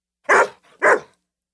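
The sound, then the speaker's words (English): A young dog playing outdoors in the snow barks twice in quick succession, two loud, sharp woofs with a brief pause and a faint grunt between them, then silence. “It's so great to play outdoors, and it's really good exercise for a growing dog.”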